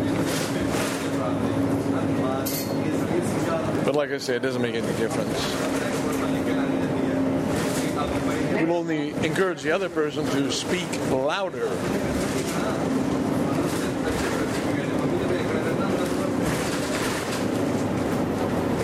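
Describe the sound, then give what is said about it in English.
A steady, low engine rumble fills the inside of a noisy old number 9 Bellamy city bus, droning without a break while a person talks loudly over it. “This is the number 9 Bellamy bus.”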